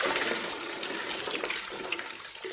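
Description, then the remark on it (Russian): Hot water pours in a steady, rushing stream from a bucket at a small bathhouse, a continuous splashing gush that stays loud for the whole moment, with no voices over it. “А горяченькой, горяченькой я тебя отолью.”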